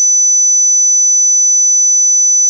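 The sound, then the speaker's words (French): A steady, high-pitched pure tone rings continuously without any change in pitch or loudness, imitating the whistling of tinnitus. No voices or other sounds accompany it. “67% des plus âgés, c'est-à-dire 18-19 ans, ont des acouphènes. Ce sont des sifflements et bourdonnements dans les oreilles comme ceci.”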